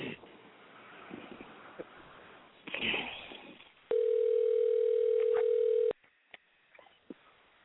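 An outgoing phone call back to a number rings on the line: one steady, loud, mid-pitched ringback tone lasts about two seconds, set between faint rustling noise and a few soft clicks.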